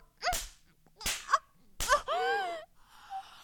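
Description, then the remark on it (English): Three sharp, loud smacks of a hand spanking bare buttocks, spaced under a second apart, each followed by a breathy vocal cry, with a longer wavering moan after the last one. “I want to feel your hand coming down on my skin like a hot poker.”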